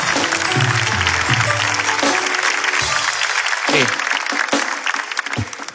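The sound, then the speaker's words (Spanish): Loud, dense applause from a crowd for a woman fills the whole stretch, a steady wash of clapping that thins slightly toward the end, with a few voices calling out underneath. “Un aplauso para ella, un aplauso.”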